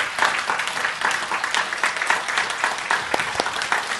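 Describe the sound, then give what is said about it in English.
A crowd applauding the children and behind-the-scenes workers who served at a Mother's Day banquet: dense, steady clapping that holds at an even, fairly loud level for the whole stretch, with no voices on top. “On the Mother's Day banquet and everyone who worked behind the scene, please stand up and we want to give you applause.”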